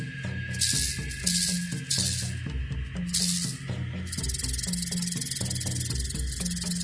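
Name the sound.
rattlesnake rattling its tail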